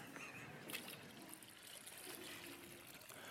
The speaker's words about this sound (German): Wir schütten noch ein bisschen Wasser da rein. Willst du das machen? Pass auf, der Papa hebt dich hoch und du schüttest. Aber da rein.